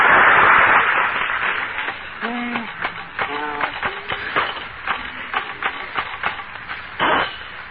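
Rapid, uneven clacking of typewriter keys, dozens of sharp taps with a few short ringing tones mixed in, on a muffled, band-limited old recording.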